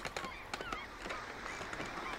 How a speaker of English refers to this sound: And I layered those on. And I thought maybe that sounds like a ship, but you've really got to add seagulls. And I'm not sure these are my seagulls or commercial seagulls.